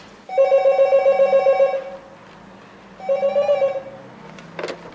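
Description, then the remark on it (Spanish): A telephone rings in two bursts, a long trilling ring followed by a shorter one after a pause, loud, with a brief clatter at the end. “Cuando va a llamar, el teléfono suena.”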